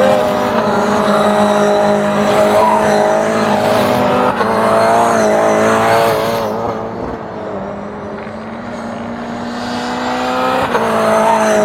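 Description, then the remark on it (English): Loud, sustained engine roar of race cars at high revs, with pitch rising and shifting as they speed by, a brief dip in the middle before the whine builds again; no talking. “I'm waiting on one of these guys to hit the grass and whip it around.”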